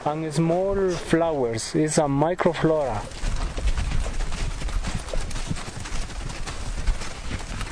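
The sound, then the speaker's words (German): Donkey hooves clip-clop steadily along a rough path in cold wind, fairly loud, following a brief warbling animal call at the start, with a dense clattering texture throughout. The donkeys, in Ecuador's Andes, are loaded with blocks of ice, each carrying two down to the valley. “verschnürt die Eisbrocken auf seinen Eseln. Jeder trägt 2 davon ins Tal.”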